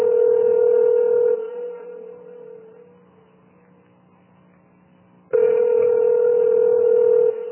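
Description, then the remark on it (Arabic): Telephone line tones as a number is dialed and a call is placed: a steady, buzzing electronic tone sounds for about a second, fades into a few seconds of quiet, then returns loudly. No voices. “وفي ليلة الغد ترفع سماعة الهاتف بنفسها ويدها ترتعش لدى ضرب الأرقام.”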